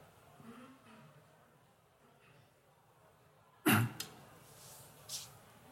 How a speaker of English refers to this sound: Let me just clear my throat here.